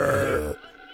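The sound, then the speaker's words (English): A howler monkey gives one loud, deep, guttural roar lasting about half a second, rough and growling, before it cuts off abruptly into faint low background noise. “Howler monkeys announcing themselves.”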